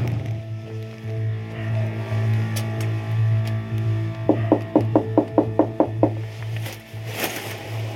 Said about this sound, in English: We're gonna go to his front door, give it a knock, see if he'll answer a couple of questions.